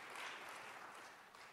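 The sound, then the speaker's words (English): Scattered clapping from an audience asked to applaud if they eat their ketchup at room temperature, a thin patter of hands that stays fairly steady and moderately loud for a brief moment before tapering slightly. “The room temperature ketchup eater, show your applause.”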